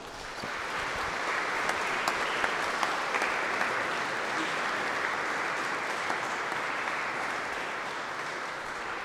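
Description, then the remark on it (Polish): An audience applauds steadily for several seconds, a dense, even wash of clapping at constant loudness, with a few sharper individual claps standing out, for Father Dr Witold Burda, postulator of the Ulma family's beatification cause, at a gathering before Mass. No voices are heard. “Wielkie, wielkie brawa.”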